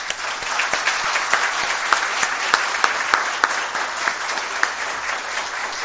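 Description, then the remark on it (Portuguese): A steady round of audience applause in tribute to the late Ildefonso Jacques, honored in memoriam: many hands clapping in a dense, continuous patter with a few sharper claps standing out, sustained at an even loudness for several seconds without any talking. “Um aplauso para o nosso saudoso Ildefonso Jacques.”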